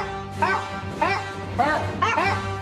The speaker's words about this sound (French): C'est très légèrement samplé. D'ailleurs, alors, partie, on continue avec notre DJ chien, là. Deuxième musique du chien chanteur. Essayez de deviner ce que c'est.